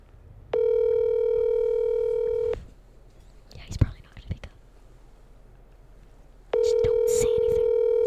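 A phone ringback tone sounds twice as a call is placed on a phone held up, each a steady two-second buzzing ring separated by a long pause, with faint whispering and handling noises filling the gap between rings.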